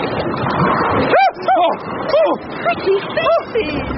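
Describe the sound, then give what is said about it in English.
A rapid series of short, rising-and-falling dog-like yelps repeats about eight times over a steady rushing noise of wind and water, made by a dozen sea creatures with heads like bald, scaly dogs popping out of the sea. “Is my running home to beat that yelping animal?”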